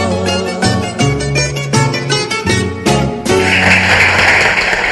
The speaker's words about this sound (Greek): Ωραίο, ωραίο, ωραίο, ωραίο και το χειροκρότημα.